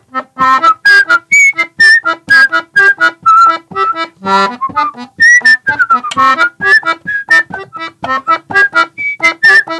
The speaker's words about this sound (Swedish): Och först då så kommer det komma ett ackordbyte, eller ett par stycken. Så jag kan försöka vissla melodin i bakgrunden så hör ni vart bytet kommer.